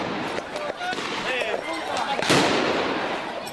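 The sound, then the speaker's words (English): Scattered gunshots crack irregularly as gunmen holed up in a building near the Indian consulate in Mazar-e-Sharif, northern Afghanistan, exchange fire with Afghan security forces: several sharp reports with one louder blast, while indistinct voices murmur underneath. “Officials are saying the gunmen holed up in a building near the Indian consulate in the northern Afghan city of Mazar-e-Sharif are continuing to exchange gunfire with Afghan security forces.”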